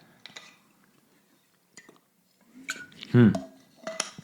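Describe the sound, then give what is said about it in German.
Dishes and glass clink and clatter in a few short bursts as someone takes a sip of water, with one louder, ringing knock near the end and faint gulping or movement sounds. No one speaks. “Als erstes nehmen wir jetzt mal einen Schluck Wasser.”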